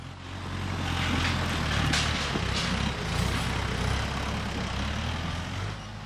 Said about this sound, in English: The work at a mushroom farm like Sweden Creek is a mix of small labors and large. Like the big tractors that haul logs along a pathway into the woods so they can rest and grow mushrooms.